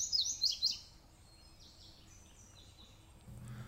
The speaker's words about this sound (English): on a leafless limb, a male indigo bunting. He pours bright, warbly doublets across a hollow running off the mountain, and another indigo answers.